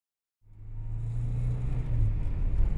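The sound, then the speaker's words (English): A new car's engine starts up and settles into a steady low rumble, fairly loud, holding its idle for a few seconds with no voices. “So, what do you think of my new car?”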